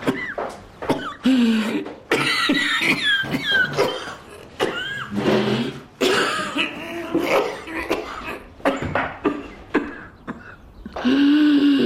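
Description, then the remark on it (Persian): Repeated coughing in harsh bursts of uneven rhythm, with strained, throaty sounds between fits, filling the whole stretch with only brief pauses. “با سرفه‌هات شروع شد؟”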